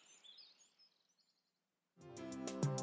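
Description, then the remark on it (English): High, thin chirping calls from young golden eagles repeat rapidly for about a second over faint background hiss, then fade out. After a short silence, music comes in. “Young golden eagles.”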